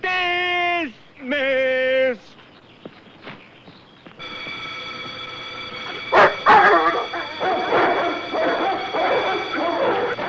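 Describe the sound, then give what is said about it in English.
Two loud blasts of an alarm siren sound in a camp, then a pack of released dogs bark and yelp excitedly, overlapping in a busy, continuous clamor that swells toward the end. “Sound the alarm. Release the dogs.”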